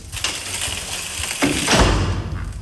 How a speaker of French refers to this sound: Les pièces qui doivent être peintes par la suite, vous avez deux sableuses. Donc ça veut dire que ça se passe comment? Alors, vous fermez la porte.